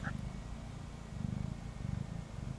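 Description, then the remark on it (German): A new male cat lying on a lap purrs, a steady low rumble pulsing in a quick, even rhythm throughout, with a faint brief chirp near the start and no talking. “Er schnurrt. Er schnurrt einfach so herrlich.”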